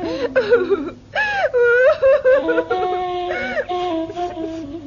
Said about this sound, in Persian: مادر حسن اونقدر ناراحت شده بود که پاک زد زیر گریه